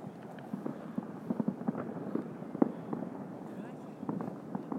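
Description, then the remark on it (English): Distant fireworks crackle and thud in a steady, irregular barrage, with dozens of muffled pops and booms overlapping against a low rumbling background. “That's a lot of fireworks going on.”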